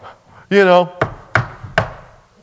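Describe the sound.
Three sharp, loud knocks on the door of a house on Christmas Eve ring out with slightly uneven spacing. A brief voiced sound comes just before the knocking.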